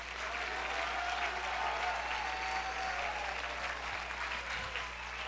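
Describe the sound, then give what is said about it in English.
An audience claps hands in praise of the Lord, a dense, continuous wash of applause, loud and sustained throughout, with a low steady hum beneath it. “I want everybody that believes the report of the Lord, clap your hands, lift your voice.”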